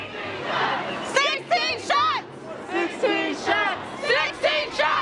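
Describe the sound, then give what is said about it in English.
A crowd of hundreds of protesters in the streets of Chicago chants after the court-ordered release of a police squad car dash cam video, many voices shouting short repeated phrases in a steady rhythm over a constant murmur of crowd noise, loud and energetic throughout. “Hundreds of protesters took to the streets of Chicago after the court-ordered release of a squad car dash cam video taken a year ago.”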